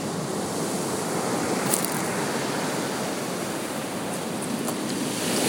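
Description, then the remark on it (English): Steady, continuous wash of sea waves that are not breaking, with a broad, hissing roar that holds an even loudness throughout, a few faint higher splashes flickering through; no voices. “You're going to do it with the waves not breaking, otherwise you can't hear it.”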